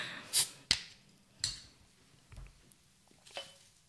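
A beer bottle is opened with a brief fizzy hiss and a sharp metallic click, followed by a few fainter clicks and a dull low thump, with no talking.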